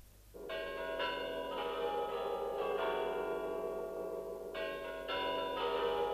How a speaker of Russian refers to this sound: Красная площадь. Да, папа. Разве из Москвы сюда слышно? Да, это в Москве. Под красной звездой звонят золотые кремлевские часы.